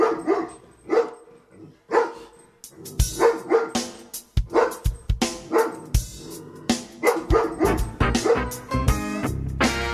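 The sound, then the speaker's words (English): A blue Catahoula hound barks loudly, a few spaced barks at first, then a rapid, overlapping flurry of barks and yips with no talking. “He's a blue Catahoula alligator eating dog.”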